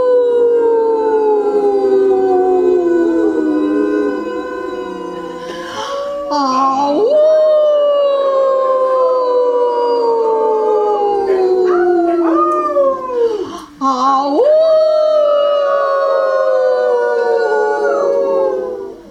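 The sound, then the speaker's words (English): A dog howls in long, drawn-out wails that slide downward in pitch, pausing briefly for breaths between sustained cries, loud with no other sounds. “My spirit howls at the coyotes.”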